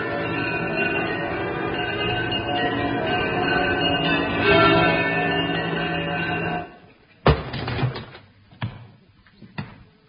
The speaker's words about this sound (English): Who rang them bells? I did.